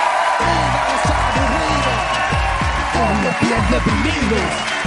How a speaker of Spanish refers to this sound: Vale, pues un aplauso para la estrella que viene hoy a la Resistencia, que es una puta estrella.